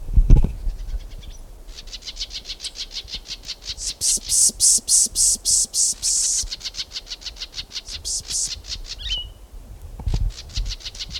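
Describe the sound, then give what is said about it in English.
Three solitaire birds calling in long, rapid series of bright, high-pitched notes that swell louder in the middle, with overlapping voices and brief pauses, over a faint low rumble. “Three solitaries here.”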